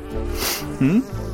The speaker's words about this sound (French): Aïe. Une abeille était cachée à l'intérieur. Elle m'a piqué le nez.